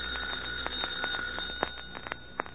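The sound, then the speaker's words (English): An electric doorbell rings continuously for a couple of seconds, a steady high-pitched metallic tone with a rapid rattling clatter and a few sharper strikes, with no voices. “Jim, a perfectly innocent person might press the doorbell and set the fire going.”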